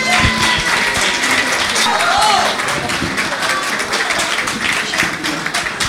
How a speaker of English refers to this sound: Alors, la prochaine artiste, je vous demande d'accueillir, sous vos applaudissements, cher public,